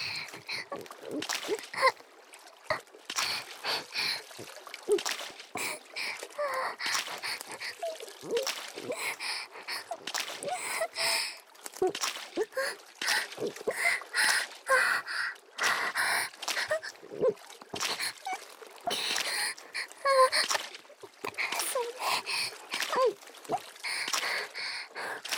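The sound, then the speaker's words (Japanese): Water splashes and sloshes in small, choppy waves, a steady irregular churn for the whole stretch, with soft breathy vocal sounds mixed in. “小さな波が立っちゃうくらいの激しさで”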